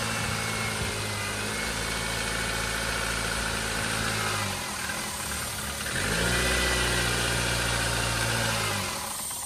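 A car engine idles steadily, its low hum briefly faltering midway before picking back up louder and rougher, while a hole in the air intake hose, a possible vacuum leak, is covered by hand to test whether the engine sounds better. No one speaks.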